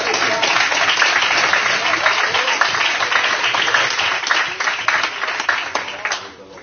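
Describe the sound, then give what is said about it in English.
A large church crowd applauds young preachers, with dense, steady hand clapping that fills the room for several seconds, then thins out and fades toward the end. “I want to give them a good hand clap.”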